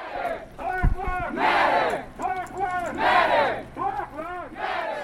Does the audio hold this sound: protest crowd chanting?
yes